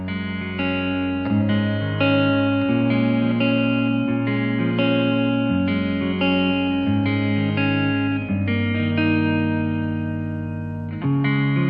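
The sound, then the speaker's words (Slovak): A singer's gospel song from his new album plays steadily and loudly, with sustained, effects-laden guitar chords shifting every second or two. It sounds like an instrumental intro, with no singing or talking. “Ako naznačuje aj jedna z jeho piesní, po tretíkrát v hre ste ju 115 bodmi dnes vytiahli na 9. miesto Gospel Parády”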